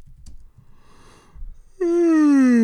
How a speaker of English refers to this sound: that yawn shows that we are ready to end this episode.